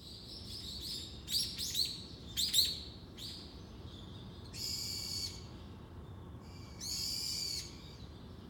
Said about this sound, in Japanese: はい、今朝の鳥の声を聞いていただいてるでしょうか。 ね、いいとこにお住まいですね。 山からちゃうよ、これね、あの普通に市街地でございます、ね、最近あちこちでも鳥めっちゃ鳴いてるよ、